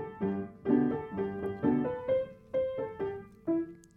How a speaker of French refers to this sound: Et le piano? Eh oui, lui aussi est un instrument à cordes, mais elles sont cachées sous le capot et sont frappées par des marteaux.